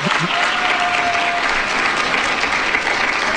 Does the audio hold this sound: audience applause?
yes